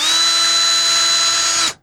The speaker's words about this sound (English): That's right, that's a drill if you're not watching the video side of things.